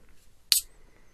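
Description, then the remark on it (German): A can of chocolate beer brought from Oslo is cracked open: one sharp, bright hiss bursts out and fades within a fraction of a second, with near silence before and after. “Es zischt.”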